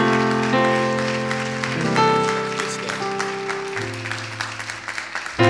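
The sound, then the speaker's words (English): A church audience claps steadily after a baptism, giving the Lord a hand clap: a dense patter of many hands that carries through sustained keyboard or organ chords shifting underneath, with no voices heard. “Come on, can we give the Lord a mighty hand clap, everybody?”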